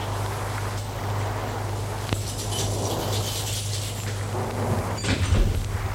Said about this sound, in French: ouvre la porte.